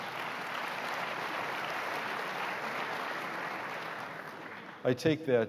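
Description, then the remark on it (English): A crowd applauds, after it is announced that the organization was judged the best entity in the United States for workers over 50 by the AARP, in a steady, dense wash of clapping for several seconds at an even level, then a voice begins speaking as the applause ends. “I take that round of applause as being knowing how tough our Board of Trustees is.”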